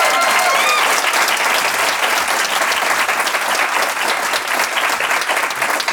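An audience bursts into steady, loud applause for a departing guest, a dense wash of clapping that holds at an even level for several seconds, with a few faint vocal cheers mixed in at the start.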